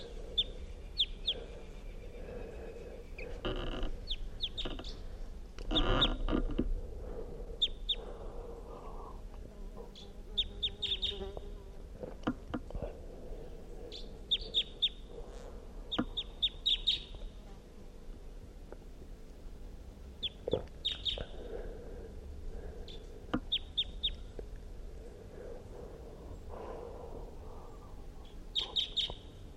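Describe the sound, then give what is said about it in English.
A wild bird perched in a tree above a net calls repeatedly, giving short, high-pitched chirps in scattered bursts over a low background rumble with occasional soft knocks. “It was singing, giving a pazzi's song phrase, and it's perched now on the tree above the net, giving calls.”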